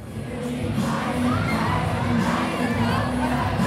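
Hundreds of fans cheer and shout continuously on a Saturday night at Brooklyn Warehouse, a concert space in Sampaloc, Metro Manila, Philippines: a dense wash of overlapping high-pitched voices and screams holding steady and loud throughout, with no single voice standing out.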